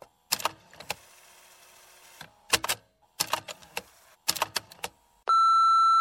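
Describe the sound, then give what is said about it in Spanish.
A series of sharp mechanical clicks and clunks in irregular bursts, followed by the steady, sustained electronic beep of a phone answering machine on which messages are left. No one speaks. “Escucha y completa los 5 mensajes que le han dejado en su contestador.”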